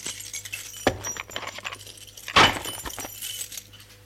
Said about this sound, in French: Après avoir fermé la porte, elle remet les clés dans son sac et le sac dans la commode du couloir.